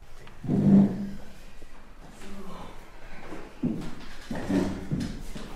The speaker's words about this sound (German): So, jetzt werden hier Stühle gerückt, denn gleich ist Chorprobe.